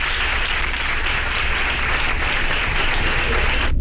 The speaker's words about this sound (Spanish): Sí, sí, un gran, gran aplauso. Merecidísimo aplauso.